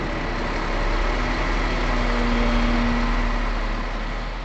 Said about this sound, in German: Kaum hat er die Röntgenanlage verlassen, fährt bereits der nächste Lastwagen vor.